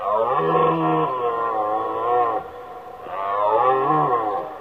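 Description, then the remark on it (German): Two long, loud bellowing roars of rutting stags, each a rough, harmonic call that swells and then slides down in pitch, with a short pause between them. “Erst als die Liebeszeit der Könige vorbei war und der Donner ihrer Rufe verstummte, gewann Bambi wieder Aufmerksamkeit für andere Dinge.”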